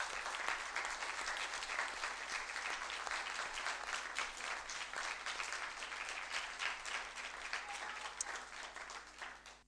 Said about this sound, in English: So let's give our helpers and our leaders a real round of applause.